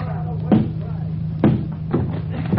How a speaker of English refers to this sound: Let's get inside. I'll break open the door.